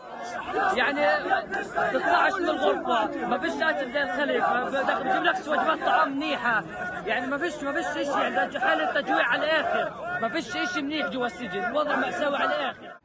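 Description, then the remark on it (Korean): A large crowd in the streets of the West Bank welcomes returning released Palestinian prisoners, cheering and chattering in a steady, dense roar of many overlapping voices, with excited shouts rising throughout. “서안 지구에서도 수감자들의 귀환을 반기는 인파가 거리로 쏟아져 나왔습니다.”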